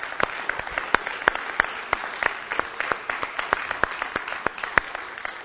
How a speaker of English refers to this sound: And when I start by saying you are team number one, I've got to say that I actually mean that, because the support from Village Bible Church for an event like this was astounding. And I just think you need to give yourselves a round of applause.